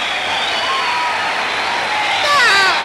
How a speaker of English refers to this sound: Signals applause on gramophone record.